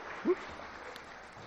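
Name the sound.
round of applause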